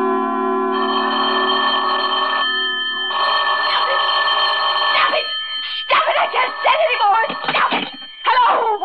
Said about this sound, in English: Ringing, will you stop it? Just stop. Hello, is this Plaza 37599?